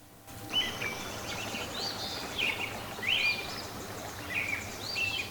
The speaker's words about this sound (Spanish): Cuando se hizo de día, se escuchaban a los pájaros cantando de primavera.